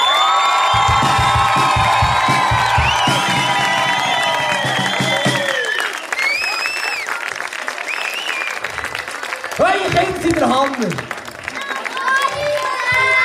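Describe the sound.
A crowd applauds loudly with steady, dense clapping, mixed with high cheers and whoops that rise and fall over the whole stretch, some shouting voices breaking through near the end.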